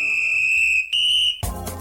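A shrill, steady high-pitched whistle sounds loudly in two long blasts with a short break between them on the radio station Educativa 104, marking a presenter's arrival, then cuts off into a burst of broad, noisy sound.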